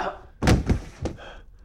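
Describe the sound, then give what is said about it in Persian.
An empty gun dry-firing with no bullet inside, so no shot is fired: three solid mechanical clicks in quick, uneven succession, each short and punchy, with faint background noise around them. “اسلحه من دستش بود، شلیکی هم صورت نگرفت چون فشنگی داخلش نبود.”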